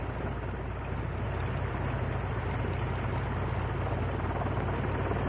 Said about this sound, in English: To her idling down now. V8. The OX5.